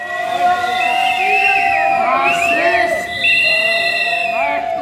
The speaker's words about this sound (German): Rund 250 Demonstranten haben sich gegen 8 Uhr morgens vor dem Landtag versammelt. Politikerinnen und Politiker bahnen sich ihren Weg an der Demonstration vorbei. Einige werden von der Menge ausgebuht.